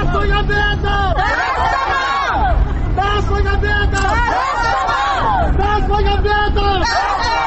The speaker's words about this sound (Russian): На нем они написали слова поэта Абая Кунанбаева о неблагополучном обществе и словосочетание «Тасмагамбетов Тастама», что в переводе с казахского языка означает «Тасмагамбетов не бросай». Эти же слова люди кричали на площади на протяжении 20 минут.